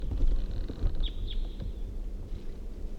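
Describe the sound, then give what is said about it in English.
Two or three brief, high 'kip' calls of a crossbill in quick succession, faint over a steady low rumble of wind or engine noise, with no one speaking. “Crossbill calls.”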